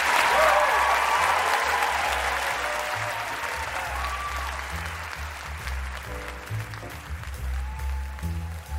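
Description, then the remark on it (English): A crowd applauds loudly for Ben Cohen and Jerry Greenfield of Ben & Jerry's ice cream, a dense wash of clapping that starts strong and gradually thins out over several seconds, with faint cheering and low rumbling underneath. “Let's hear it for Ben and Jerry.”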